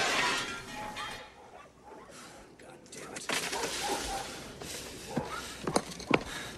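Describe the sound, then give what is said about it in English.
A golf ball smashes a large window pane in the front of a house with a loud crash, followed by a spray of tinkling glass shards and a few sharp clinks as pieces fall, bright against a noisy background. “As he stoops again, another golf ball whistles past and smashes a large window pane in the front of the house.”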